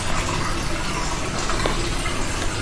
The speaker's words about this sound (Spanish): Con ese sonido del agua o también con las maltas que se usan para elaborar la Estrella Galicia.